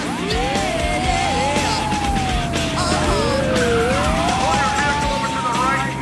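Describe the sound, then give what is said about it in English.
A sports car with a Minnesota license plate pulls into a snowy street, tires spinning and squealing in long, wavering whines over a steady roar of engine noise, loud and continuous for several seconds as the vehicle slides about. “Tires spinning, the car pulls into a snowy street.”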